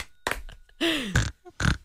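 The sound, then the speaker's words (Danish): A pig grunts and oinks in a few short, loud bursts, one stretching into a squealing tone that slides downward, with brief pauses between calls. “Det er en svinesteg, kan jeg høre.”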